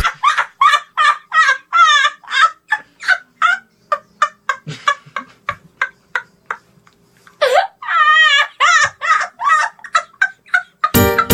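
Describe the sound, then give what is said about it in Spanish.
Loud chick peeps in a children's song chirp in a fast, steady run of high calls, pause briefly, then return in a quicker flurry before the sound cuts off abruptly. “En mi radio hay un pollito, en mi radio hay un pollito”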